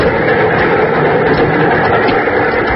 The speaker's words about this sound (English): There was no answer, and suddenly I realized that I was hanging on the side of a speeding train. I climbed slowly up the iron ladder, the wind tearing against my body.